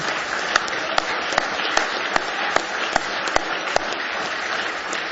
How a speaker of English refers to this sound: Somebody say praise the Lord. Now give Him one more hand clap of praise.